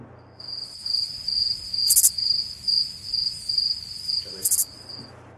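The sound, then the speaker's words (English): Crickets chirp in a steady, high-pitched pulsing trill that runs for about five seconds, with a couple of brief sharper bursts along the way and no voices. “Silence. Okay. Crickets.”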